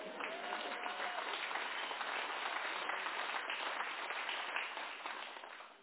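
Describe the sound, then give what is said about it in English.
A crowd claps steadily in a dense, sustained wash of applause, holding at an even, fairly loud level for about six seconds before tapering slightly at the end. “I thought you would at least whistle, if not clap.”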